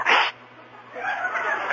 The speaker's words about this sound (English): There we go again. Hey, speaking of sneezing